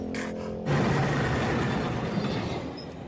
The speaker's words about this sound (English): A moose watches the train pass.